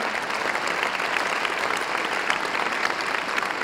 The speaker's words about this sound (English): Yeah, come on, clap your hand.